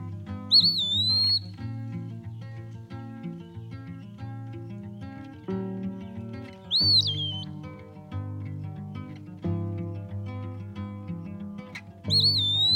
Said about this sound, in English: I would hear its song most mornings. Turns out it's an eastern wood peewee. I haven't seen it yet, but I'll keep looking.